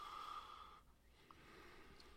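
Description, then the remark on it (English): Breathy sniffing of a claret, a red Bordeaux wine, followed by a softer airy slurp as it is tasted, a quiet continuous hiss about two seconds long with no talking. “… is doing that fancy wine sniff and slurp.”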